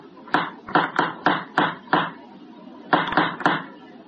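A series of firm knocks by police on a door: a run of six sharp raps, a short pause, then four more, each a hollow thud with no voices over them.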